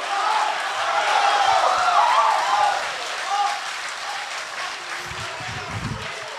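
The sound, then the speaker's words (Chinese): A large audience claps steadily for several seconds at a xiangsheng (crosstalk) comedy performance of 《妾生活》 by Guo Degang and Yu Qian, a dense, sustained wash of applause that swells early and then holds at a slightly lower level, with faint crowd voices mixed in. “谢谢，谢谢大家给我一个人的掌声。”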